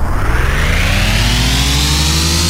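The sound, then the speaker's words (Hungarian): A racing game car engine revs up steadily at the start of a race as the up-arrow accelerator key is held down, its pitch climbing in smooth rising harmonics over a constant low rumble, loud with no one speaking. “Beindul az autó.”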